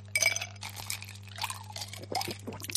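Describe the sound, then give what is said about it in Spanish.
A cold drink is poured over ice, with several bright clinks of ice against glass and a splashing, fizzy liquid sound in between. No one speaks. “Lo que tardas en beberte una bebida bien fresquita, con sus hielos, cuando estás en pleno verano y a 40 grados a la sombra”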